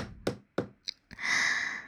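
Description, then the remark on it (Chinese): Two dull knocks, evenly spaced, rap on a hotel room door from outside, then a brief click and a long breathy exhale that lingers to the end; no one speaks. “不一会儿，门外响起敲门声。”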